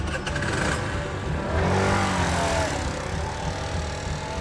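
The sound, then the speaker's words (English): A small moped engine revs up during a wheelie attempt and climbs in pitch, then holds a buzzing, strained whine before easing off, fairly loud against outdoor background noise. “He'll keep on fixing bikes, teaching little kids, and getting better at wheeling a moped. Nah, I'm going to try to wheelie it, though.”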